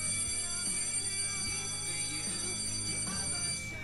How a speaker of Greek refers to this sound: Η ώρα των ακροατών. Λοιπόν, θα βάζουμε το κουδούνι. Να το ακούτε κτλ. Μέχρι να αποκτήσουμε αληθινό κουδούνι.